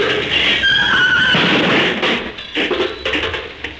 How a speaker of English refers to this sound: Good heavens. The whole front of the car is wrecked.